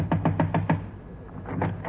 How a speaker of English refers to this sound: I'll knock again.